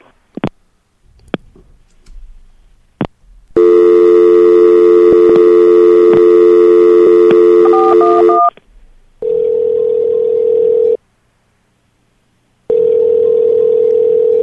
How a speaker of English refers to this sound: Oh, I'm sorry. I meant to dial information.